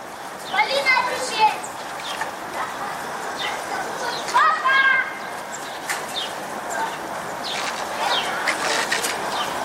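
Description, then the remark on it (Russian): Children's voices shout and chatter in bursts as they play outdoors in a construction pit being dug beside the Solnyshko kindergarten, over a steady background hiss, with occasional sharper calls standing out. “Дети в котловане играются.”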